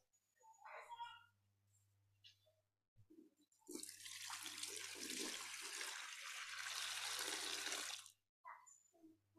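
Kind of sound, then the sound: household object, water being poured out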